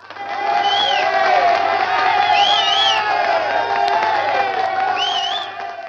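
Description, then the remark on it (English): A large crowd cheers and applauds loudly and continuously for several seconds, with whoops and shouting voices rising above steady clapping, fading slightly at the end. “only if you play that lovely applause again.”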